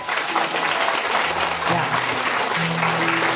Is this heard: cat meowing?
no